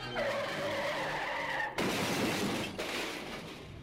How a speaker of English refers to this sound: Flinging their ropes so that they catch onto a ledge two stories up on the building behind them, the two clamber up out of harm's way as the killer car, driving right up on the sidewalk, goes out of control.